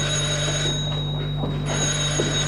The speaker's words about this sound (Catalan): Truca al telèfon.